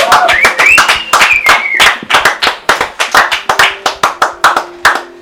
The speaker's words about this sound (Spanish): Un aplauso.